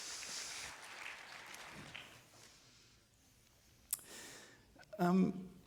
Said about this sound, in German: Und das funktioniert. Applaus im Saal.